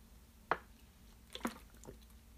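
Someone takes a few quiet sips of water, with a wet gulp, a pause, then two or three soft swallowing sounds against near silence.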